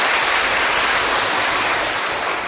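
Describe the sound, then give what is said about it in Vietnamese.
An audience of children at a Buddhist day of practice, asked by a monk for bigger applause, claps steadily throughout, a dense, sustained wash of applause filling the whole moment at a strong, even level with no voices. “Và do vậy sư rất hạnh phúc được gặp các em sáng hôm nay, cho một tràng pháo tay lớn hơn thế nào.”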